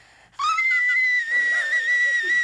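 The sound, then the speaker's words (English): A piercing, very high sustained note from a singing voice, shrill and thin like a whistling tea kettle, held steadily for about two seconds with slight wavering and no talking. “It's more of a tea kettle than a whistle tone.”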